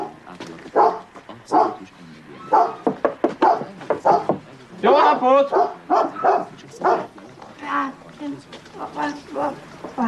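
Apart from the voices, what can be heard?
dog barking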